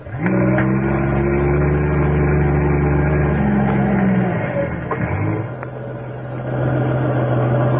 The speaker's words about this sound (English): Suddenly, the silence of the night is broken by the roar of a trailer truck climbing the steep highway.